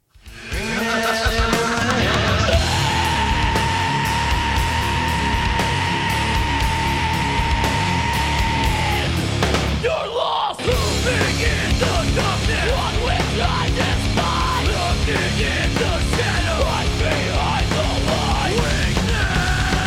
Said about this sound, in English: Screaming punk and heavy metal vocals may sound like they hurt, and often they do.